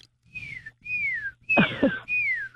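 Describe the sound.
A person whistles four evenly spaced, downward-sliding notes, imitating a songbird's repeated call likened to 'Judy, Judy, Judy', suggested to be a Carolina wren or tufted titmouse, with a brief rough noise under the third note.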